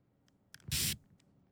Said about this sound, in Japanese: それでは、スプレーを開始しますね。いきます。